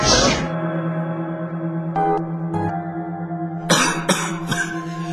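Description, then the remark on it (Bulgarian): A man with a heavy cold coughs repeatedly, a harsh opening cough, two short hacks, then a rough cluster of congested coughs near the end, fairly loud over a low steady hum. “Той изглежда много нервен, измъчен, гризе ногтите си, освен това е силно настинал и кашля.”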